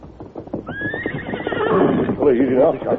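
The horse Silver lets out a loud whinny that rises sharply and then wavers downward for a couple of seconds, with a faint scuffle of hooves underneath.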